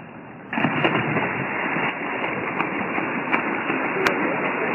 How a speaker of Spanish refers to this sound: Ahí se escuchan las brazadas. El que más pega el agua es Kaká. Le pega el tío porque va, vamos, hacen remos.